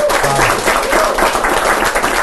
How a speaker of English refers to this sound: What's cool about the LHC, the Large Hadron Collider, is that it's running. Again, it's back up. Yay. So it was dark. Yeah, applaud.